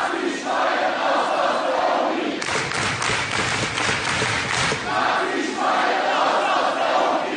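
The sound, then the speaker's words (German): A loud crowd of protesters in a lecture hall at the University of Hamburg, protesting an economist's first seminar, shouts and chants in unison, with a burst of clapping and rhythmic thumping in the middle before the chanting voices rise again. “Jetzt ist er als Volkswirtschaftler in die Lehre zurückgekehrt und das erste Seminar an der Uni Hamburg, das wurde von lautstarken Protesten begleitet, nicht nur vor der Uni, sondern auch im Hörsaal.”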